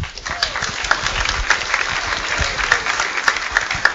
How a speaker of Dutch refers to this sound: Dames en heren, live vanuit Den Helder, de Make a Choice Quiz. Hier is uw presentator. Een daverend applaus voor Chris!